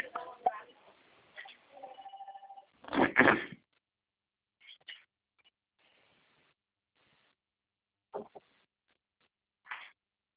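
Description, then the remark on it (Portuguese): A telephone rings once in a short, steady tonal burst, heard through a thin, band-limited phone line, with muffled voices and a few dull knocks and clicks around it. “Minutinho só que eu vou atender um outro telefone. Ah, tá. É Tá que tocando aqui.”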